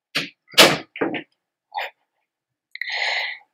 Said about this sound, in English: I heard the door close.